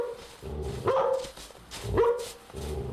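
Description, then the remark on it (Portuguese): A dog named Messi barks twice, about a second apart, with sharp yelps over a steady low background hum. “Olha ela ali com o cachorro ali.”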